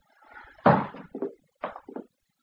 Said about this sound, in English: You'd better close the door if you don't want the neighbours to hear.